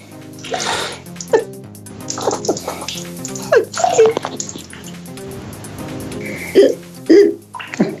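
Water runs and splashes in a toilet in uneven gushes, loud and steady with brief surges, while a few short squeaky, pitched sounds break through now and then.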